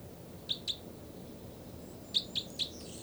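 Two birds, numbered 305 and 306, trade short, high, sharp chirps: a quick pair of calls, a pause, then a run of three, all clear over a low, steady background rumble with no voices.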